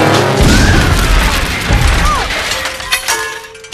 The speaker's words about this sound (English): and immediately crashes into rocks.